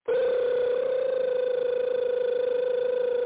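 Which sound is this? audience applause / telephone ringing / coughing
telephone ringing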